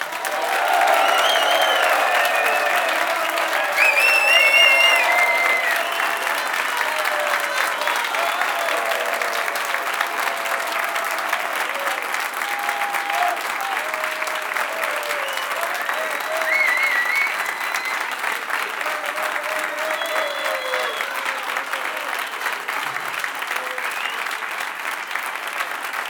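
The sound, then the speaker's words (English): Sustained applause from an audience welcoming a musician, a dense steady clatter of many hands clapping for about twenty-five seconds, with a few whoops and scattered voices rising through it early on. “Please welcome with all the noise you can bring to Mr. ….”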